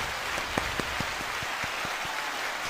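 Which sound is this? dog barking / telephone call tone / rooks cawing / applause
applause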